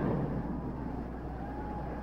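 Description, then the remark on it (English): A turbine race car engine drones steadily on the track, a continuous low whine and rumble that holds at a fairly even, moderate level for the whole moment, with no voices. “Foyt pits, and the turbo car is leading again.”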